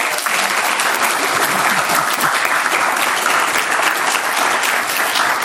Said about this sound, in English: Maybe another round of applause for our lovely nuns.